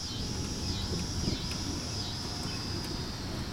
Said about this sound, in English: There's a guy who's blowing leaves, and there's thunder. and there are cicadas. We're going to listen and let the the listener hear the wonder and majesty of the Midwest.